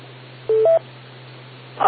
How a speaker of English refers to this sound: Somebody was texting. My phone kept beeping.